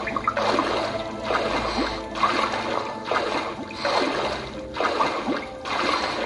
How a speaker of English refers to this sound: Now down there, we have some water, which we are going to jump into. This water's freezing. Yes. We are now swimming to the left.